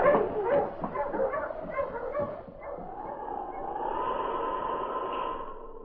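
husky dog barking

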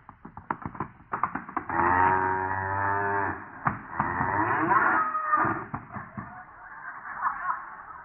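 cattle mooing

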